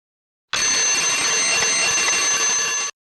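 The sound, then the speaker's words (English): An alarm clock set for 9 o'clock rings loudly and continuously for about two and a half seconds, a bright, metallic clatter that starts abruptly and cuts off just as suddenly, with no voices. “At what time is the alarm clock going to ring? At 9 o'clock. It's going to ring now.”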